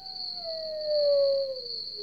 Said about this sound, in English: We've added some sounds. Mm-hmm. We're listening to them right now. Maybe a lone coyote.